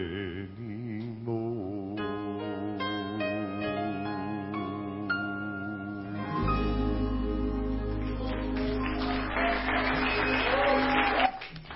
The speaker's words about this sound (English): Go ahead and applaud.